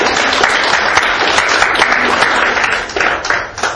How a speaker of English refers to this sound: Let's give him a good hand clap of praise all over the house tonight.